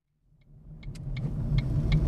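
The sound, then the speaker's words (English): A car engine rumbles in from silence and grows steadily louder as the vehicle drives up to park in town within sight of college gates and a school bus stop, with a few faint high ticks over the low motor noise and no talking. “This is about the nearest we can park”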